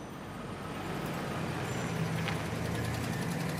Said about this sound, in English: Nighttime traffic.